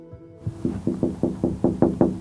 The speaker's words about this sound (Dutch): Ze klopt een paar keer op het raam.